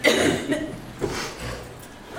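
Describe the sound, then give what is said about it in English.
An audience coughing on request: several overlapping coughs from different people, with bursts at the start and a few more scattered through, moderately loud with a faint murmur beneath. “Okay, everybody cough. I want to give you 30 seconds to cough.”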